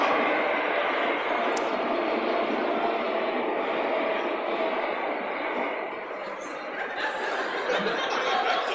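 A busy train station in downtown Tokyo at morning rush hour: a loud, steady wash of crowd noise with many indistinct voices and bustle blending together throughout, dipping briefly before swelling again.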